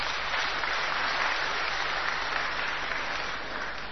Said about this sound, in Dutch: Dus geef ze even een applaus. Dank jullie wel.